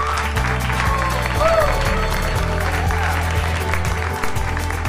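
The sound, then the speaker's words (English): Sustained applause from a large audience at an evening event, dense and steady clapping throughout, with a low hum of music or crowd murmur underneath. “They've all learned to clap, and it's so exciting to see.”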